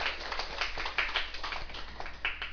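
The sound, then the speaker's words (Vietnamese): An audience claps steadily for a few seconds, giving themselves a big round of applause, a dense wash of many overlapping hand claps at an even level throughout, with no voices over it. “Ráng đi, vỗ tay cho mình một tràng pháo tay thiệt to đi, đừng có thụt lùi.”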